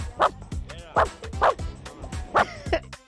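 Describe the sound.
A person imitates a dog barking with five sharp, close-up "woof" sounds in an uneven rhythm, each a short vocal bark with harmonic voice texture.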